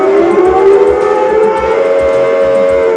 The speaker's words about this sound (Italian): Non è un brontosauro, è una sirena